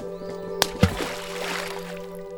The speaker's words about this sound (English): The rock moved. Then it began to roll. The rock rolled down the hill and splashed into the sea.